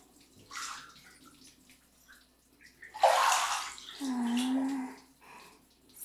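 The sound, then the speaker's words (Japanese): Soap being lathered up while scrubbing a person's body, with wet, squishy scrubbing, quiet at first and then a louder burst of sudsy friction, followed by a low, drawn-out tonal hum. “ほーら、泡立ってきましたよ。”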